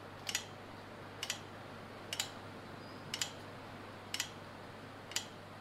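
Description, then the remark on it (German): Ceiling fans ticking in a small visitor centre at Garig Gunak Barlu National Park on the Cobourg Peninsula: six soft, double clicks at a steady rhythm about once a second, over a low, constant hum with no voices. “Die Deckenventilatoren ticken.”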